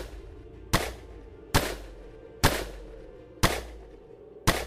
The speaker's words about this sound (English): loses his temper and blindly fires his revolver over the hood of the car.